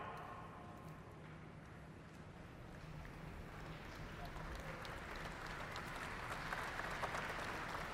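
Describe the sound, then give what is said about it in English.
A large audience applauds a presenter at the start of a presentation, a dense wash of clapping that holds through the whole stretch and swells slightly louder toward the end. “I hope I can get more applause later on during my presentation.”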